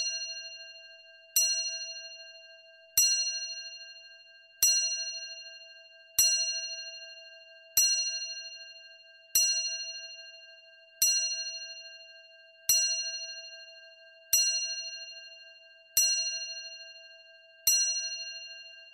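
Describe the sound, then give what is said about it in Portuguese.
A bell strikes twelve at midnight on 31 December at a slow, steady pace, each clear metallic strike ringing out and fading into a sustained hum before the next. No voices. “Fiquemos pelo 31 de dezembro e pelas 12 badaladas da meia-noite.”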